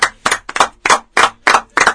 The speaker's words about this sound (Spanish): Fuerte el aplauso.